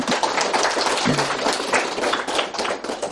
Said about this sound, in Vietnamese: Xin quý vị cho một tràng pháo tay.